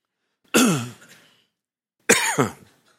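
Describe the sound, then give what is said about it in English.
Two harsh coughing bursts from a person with allergies, about a second and a half apart, each with a rough throat-clearing rasp, separated by silence and with no talking. “Thank you, Lord, for coughing.”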